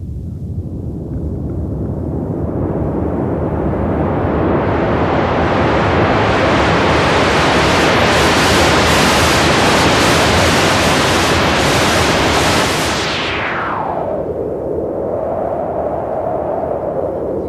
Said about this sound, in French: Diu que el soroll del vent que han fet ha sigut fet amb un generador que... De bruit blanc. Que se'n diu el soroll blanc.